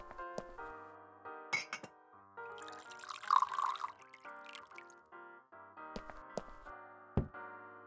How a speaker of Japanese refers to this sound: さあ、お水汲んであげて。